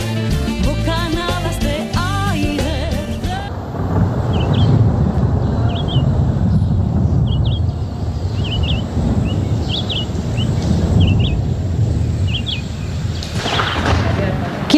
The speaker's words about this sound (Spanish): Y escuchar los pájaros de la Amazonía, las aves de la Amazonía con su cantar en los árboles, en esas extensiones donde uno encuentra naturaleza, agua, donde hay muchos colores